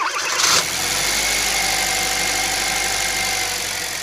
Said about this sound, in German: Das ist natürlich ein Auto mit Verbrennungsmotor.